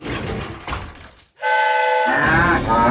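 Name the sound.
horn honking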